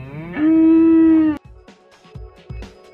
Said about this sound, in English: The cows look happy, don't they? Munching away on the grass.